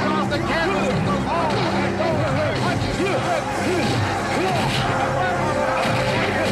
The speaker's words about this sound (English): So here comes the big punches. Now, of course, Apollo's doing the punches with Rocky on the side of the ring there, like we mentioned before. Clubber continues the miss. Clubber doesn't know what's happening.